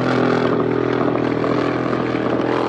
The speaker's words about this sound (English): Mexican security forces surrounded a group of heavily armed members of the Sinaloa cartel. A video shared on social media shows a helicopter trading heavy gunfire with armed men on the ground.